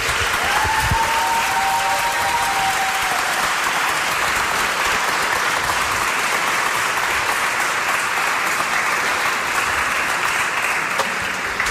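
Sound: audience applauding the band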